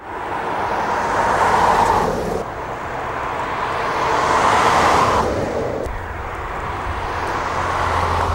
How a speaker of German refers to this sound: Rund 100.000 Menschen sind im Kanton Bern Straßenlärm ausgesetzt.